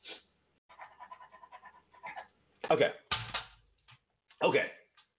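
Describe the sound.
A voice imitates sniffing: a few sharp, breathy sniffs and huffs in quick bursts, following softer, murmured animal-like vocal noises.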